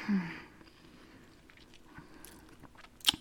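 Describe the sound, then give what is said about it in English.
Wet slurping and biting on a long cherry pineapple popsicle, with a soft suck at the start, small sticky mouth clicks, and one sharp crunchy bite near the end. “Slurping all the juices out of this popsicle.”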